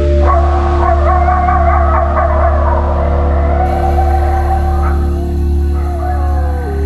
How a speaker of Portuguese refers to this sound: A primeira noite do filhote será a mais longa de todas. Há sons de caçadas. Lobos, coiotes, até onças.